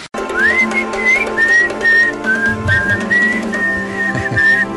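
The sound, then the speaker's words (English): A bright whistled melody carries a tune in short gliding phrases over a steady instrumental backing, loud throughout with no voices. “Can you do the whistling and the double clap, though?”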